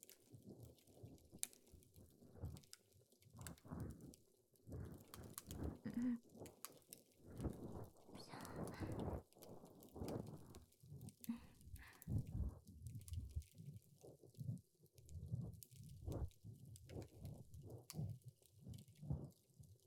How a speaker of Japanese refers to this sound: 耳かきに集中できません。今は耳かきに集中。